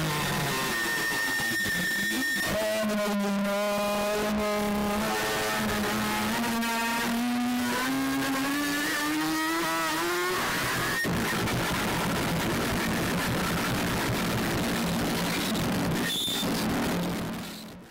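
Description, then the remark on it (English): A motorbike engine revs loudly, its droning pitch climbing steadily for several seconds before giving way to a rough, noisy roar that carries on to the end. “All right, well, let's listen to the 8:55 mark and the revving motorbike sound.”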